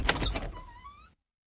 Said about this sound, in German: Gut. Ich mache meine Tür auf.